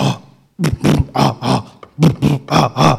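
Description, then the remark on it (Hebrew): A voice imitates the engine of a Mercedes car whose distributor, ignition and fuel injection are not tuned: a string of about eight loud, rough, low grunting bursts in an uneven chugging rhythm, with a brief stutter partway through. “הכל לא מכוון, אתה שומע את האוטו, עובד ככה.”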